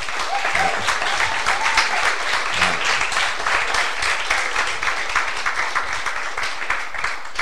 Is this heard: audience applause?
yes